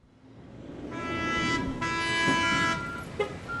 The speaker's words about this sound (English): Baltimore's seaport is a world of big, noisy steel machines, giant cargo ships, cranes, and roaring trucks.